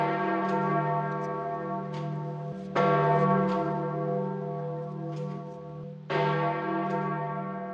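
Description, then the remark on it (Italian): Large church bells ring out in a loud, resonant peal marking the death of Pope John Paul II, with fresh strikes landing every few seconds over a sustained, humming wash of overlapping tones and no voices. “E l'applauso della gente di San Pietro è stata la testimonianza della commozione spontanea, genuina, profonda, sottolineata dal suono delle campane di tutto il mondo.”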